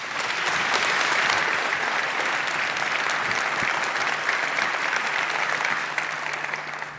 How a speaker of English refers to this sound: And the stage is yours, and that is your applause. Thank you.